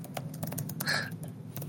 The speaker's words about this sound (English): That's a lot of typing.